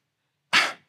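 A pit bull gives one short, loud bark, a sharp single burst that fades quickly, with silence before it and no other sounds around it.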